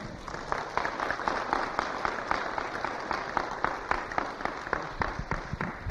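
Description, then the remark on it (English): An audience claps steadily for several seconds, a dense patter of many hands with sharper individual claps standing out, moderately loud and continuous without any talking over it. “You can clap.”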